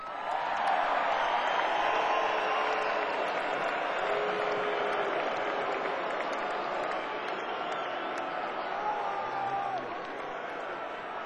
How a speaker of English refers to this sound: That's much more applause than I was expecting.